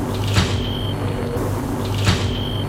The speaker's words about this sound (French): Arrivé devant la porte d'entrée, il sonne. La porte s'ouvre.